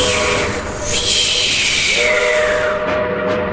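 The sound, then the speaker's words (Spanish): A coal-fired steam train's long, loud whistle sounds steadily over a rush of hissing steam and the rumbling clatter of its wheels on the rails, with no voices present. “Empezaban las ruedas a traquetear sobre las vías y un silbido largo acompañaba el humo que se deflecaba como una cabellera.”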